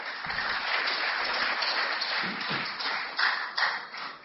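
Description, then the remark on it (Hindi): A crowd applauds steadily for about four seconds to welcome Rajiv Dixit onto the stage, a dense, even wash of many hands clapping, with a couple of slightly louder surges near the end and no talking. “तो ऐसे वाग्भट के दूत और भारत के सपूत श्री राजीव दीक्षित जी से मैं अनुरोध करूंगा कि वो मंच पर आएं और पुरजोर तालियों के साथ उनका आप स्वागत करें।”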